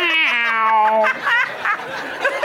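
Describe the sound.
A person's voice imitates an older, tired cat's weary, drawn-out meow, a sustained harmonic wail lasting about a second, followed by softer breathy vocal noises and faint laughter-like sounds, clear.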